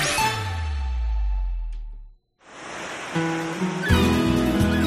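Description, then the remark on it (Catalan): A steady, hissing wash of Mediterranean Sea waves rises after a brief pause, following a short swell of tonal music, with musical notes and chimes layered over the surf toward the end. “El Mediterráneo es maravilloso, el mar, la gente, la comida, el vino”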